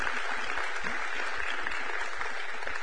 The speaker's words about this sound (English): Would y'all give the band another round of applause? Thank you, guys.